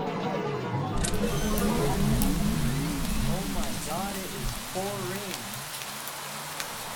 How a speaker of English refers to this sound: Oh man, it looks like it's raining outside.